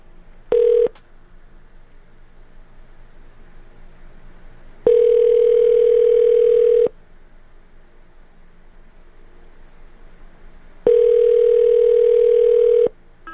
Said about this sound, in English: Can we get through this pulsating dial tone? I dial 9 first, right? Okay, that doesn't pulsate anymore.